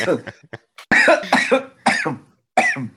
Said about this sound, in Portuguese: Eu tô tomando água e me engasguei aqui.